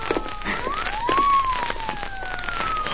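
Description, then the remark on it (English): A police siren wails, its pitch sliding up and then slowly falling, loud and steady over a crackly, hissing background with no voices. “Yeah, listen. Police car.”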